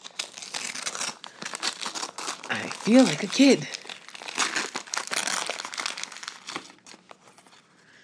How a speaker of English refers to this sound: It's a small package. It's square. It's wrapped up. And it sounds like something hard, I guess. But I don't know what might be inside. So, we are now tearing wrapping paper. And we are going to find out at the same time.